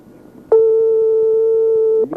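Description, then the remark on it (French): A single steady telephone ringing tone sounds on the line for about a second and a half as an RTL radio show calls a listener live, a loud sustained electronic hum with faint background murmur around it. “Allez, encore une petite sonnerie.”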